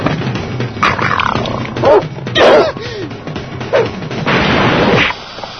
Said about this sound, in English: Dog!